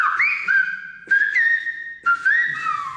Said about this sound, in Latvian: Kanārijas salās mobilie telefoni nemaz nav vajadzīgi, jo tur vairāku kilometru attālumā vietējie iedzīvotāji sazinās svilpojot.